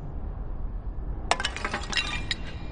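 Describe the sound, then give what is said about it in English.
Catwoman breaks ceramic pots holding ancient artifacts, with a sudden crash followed by a scatter of bright clinking, rattling shards over about a second, above a low steady rumble. “Catwoman is breaking some pots.”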